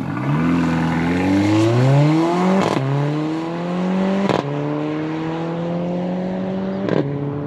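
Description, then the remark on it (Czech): A powerful Mercedes-AMG car engine revs hard and accelerates on the airfield at Mnichovo Hradiště, Czech Republic, its pitch climbing through several gear changes with brief shift breaks as tires squeal. It is loud, with no talking. “Obě káry jsem protáhl za kvílení gum na letišti v Mnichově Hradišti.”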